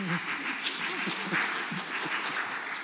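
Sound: audience clapping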